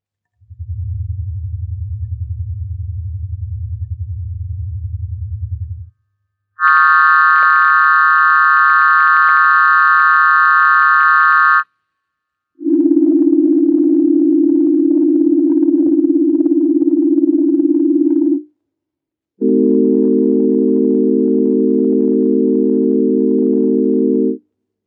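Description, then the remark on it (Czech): Four sustained synthesized tone blocks, each about five seconds, separated by short silences: a low buzzy drone, a bright high harmonic tone, a mid-low steady hum, then a rich layered low tone, all loud and steady. “Různé typy tónových bloků.”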